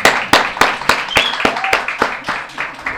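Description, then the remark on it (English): A chapel audience claps in a steady, even rhythm, about three or four claps per second, cheering a couple celebrating their 50th wedding anniversary, over a dense wash of cheering voices with a brief high whoop rising above the noise. “So we got to give them a big cheer, right?”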